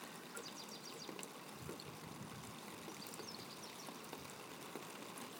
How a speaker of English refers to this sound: Fuck you, rain, go and die. It's very cold as well.